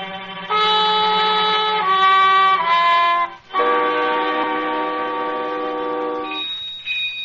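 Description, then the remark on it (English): A doorbell rings as a visitor arrives at the door: a loud, sustained chime that steps through several different pitches, each tone held for a second or more, with a brief break midway and no voices. “There's the bell now.”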